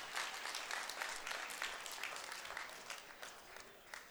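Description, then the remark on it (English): Audience applause at a church service: a dense, steady patter of many hands clapping at once, holding for a few seconds before thinning slightly toward the end, with no voices rising above it. “Clap it up. Nice work, okay?”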